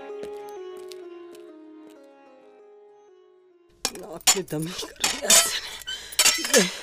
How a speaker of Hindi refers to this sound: अरे माँ जी, माँ जी, ये क्या कर रही हैं आप? और ये बर्तन किसके लिए निकाल रही हैं?